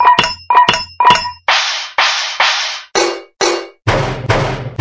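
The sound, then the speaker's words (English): Metal pots, pans, tins, a can and a bin are banged in a loud, clattering series: ringing clangs first, then harsher crashing hits, about a dozen strikes in under five seconds with no talking. “Bang, crash, bang. What a din.”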